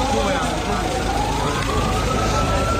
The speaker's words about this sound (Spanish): Ambulancias de camino al hospital.